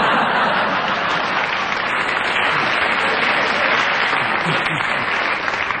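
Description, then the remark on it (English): A large audience applauds steadily, a dense wash of clapping that stays loud and even for the full few seconds without fading. “It's amazing how when they insult me, you always applaud, isn't it?”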